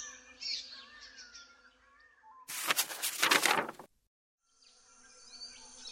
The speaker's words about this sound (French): Soudain, l'oiseau s'élève le long d'un arbre, en voletant de branche en branche.